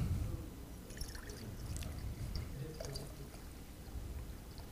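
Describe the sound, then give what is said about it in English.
Water pours steadily into a glass jar holding electrodes, a continuous splashing gurgle lasting several seconds with small bright plinks on top and no voices. “All right, so I'm just going to add some water.”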